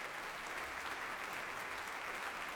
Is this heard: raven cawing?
no